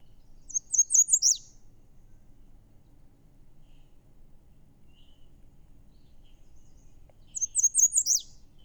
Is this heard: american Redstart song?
yes